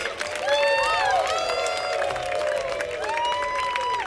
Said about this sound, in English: Again, please give your hands together for the band.